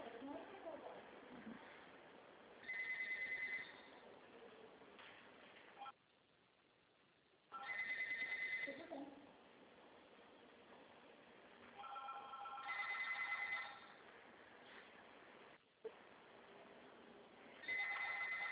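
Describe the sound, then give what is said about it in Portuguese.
A telephone rings with an incoming call whose number shows as from Greece, in a steady repeating pattern, four bright tonal bursts about five seconds apart, over a low background murmur with some faint talk. “Ó, o número que ligou aqui para mim, que ligou para mim, está escrito Grécia.”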